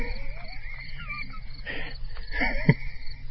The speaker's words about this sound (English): On a sunny afternoon, crickets and a hiker sing in the Kansas Tallgrass Preserve.